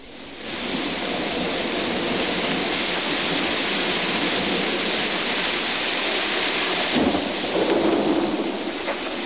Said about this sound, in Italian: E come sentite, la pioggia continua a cadere, ormai sono passati giorni e giorni e giorni, 7 giorni di piogge, anche voi potete ascoltare un po' di pioggia se volete.